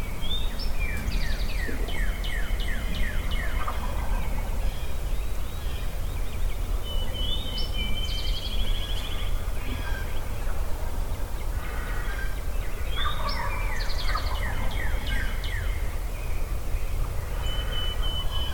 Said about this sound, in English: The gobblers you're hearing are clear down in Pity Creek to my east. I'm also hearing them in Yellow Willow Creek to the west.